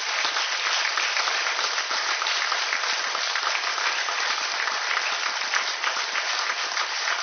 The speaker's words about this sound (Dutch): Mag ik jou naar voren halen onder een luid applaus.